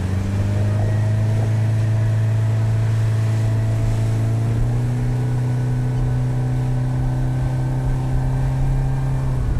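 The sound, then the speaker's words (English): A RIB boat's engine drones loudly and steadily on a river near Fidown, its pitch climbing partway through as the engine is opened up and the boat gathers speed, with rushing wind and water noise throughout. “Once clear of these, Kenny was able to open up the engine and bring up the speed.”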